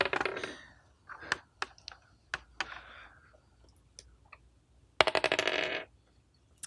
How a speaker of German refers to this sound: Ich würde sagen, wir würfeln erst noch mal ein bisschen weiter